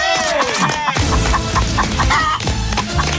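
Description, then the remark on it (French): A chicken from Mauritius clucks repeatedly in short bursts, heard over a dense, steady background hum with no clear speech. “Un poulet de l'île Maurice, et il est pour Marseille.”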